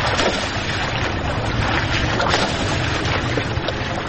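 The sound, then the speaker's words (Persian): Steady rush of water of the Harirud river in Firozkoh, Afghanistan, with continuous splashing and gurgling as a 13-year-old boy washes cars on the riverbank in the cold, a dense wash of sound with a faint windy hiss and no voices. “پسر 13 ساله‌ای که دستان کوچکش از شدت سرما سرخ شده در کنار دریای هریرود در فیروزکوم مشغول شستن موترها است.”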